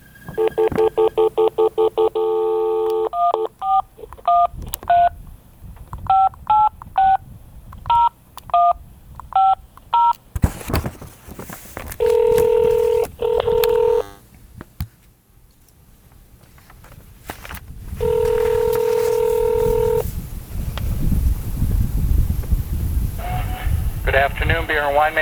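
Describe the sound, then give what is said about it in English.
A rapid sequence of beeping touch-tone keypad presses dials a friend's phone number, followed by a couple of long electronic ring tones, all clear with no talking. “So I made a little bit of a phone call out to a friend.”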